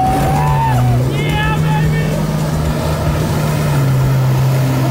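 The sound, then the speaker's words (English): A turbo jet ski engine drones loudly and steadily on the water for the whole stretch, its low rumble holding a constant pitch, with brief higher whining tones rising and falling over it. “look, it's two turbo jet skis.”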